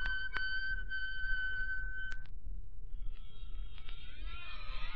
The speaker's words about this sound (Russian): Ты слышишь? Скрипят городские ворота.